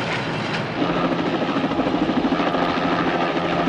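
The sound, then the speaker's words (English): A helicopter takes off from the water beside a wooden jetty and climbs into a clear blue sky, its rotor beating in a fast, steady thump over a dense engine whine that grows a little louder after the first second. No one speaks. “The three men out of the car arrive at the jetty just as the helicopter takes off from the water.”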